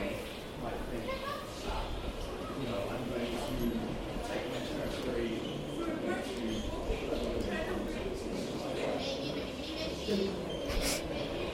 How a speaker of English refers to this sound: What is that noise? It's a rail. The electric rail.